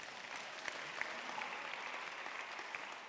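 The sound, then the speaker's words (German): Steady applause from an audience fills the whole stretch, a dense wash of many hands clapping at moderate volume with no one speaking over it. “Also heißt dieser Applaus jetzt ja oder klatscht ihr euch wach oder so?”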